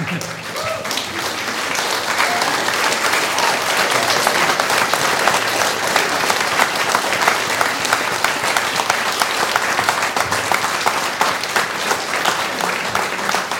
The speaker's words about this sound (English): Amen. That was a good place to clap.